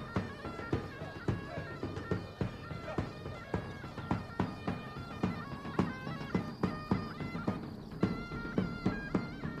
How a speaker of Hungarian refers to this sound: Te megint ott van a ló.